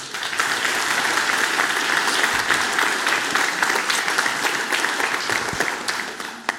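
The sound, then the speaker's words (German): An audience applauds a speaker being introduced for a talk about Vim, a dense wash of many hands clapping at an even loudness for several seconds before tapering slightly at the end, with no talking over it. “Einen Applaus für Weeman.”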